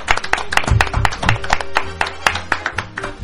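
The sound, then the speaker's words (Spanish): A burst of applause from a small group, many sharp overlapping claps at an uneven, lively rhythm, fairly loud and steady throughout with no voices on top. “¡Un aplauso para ellos!”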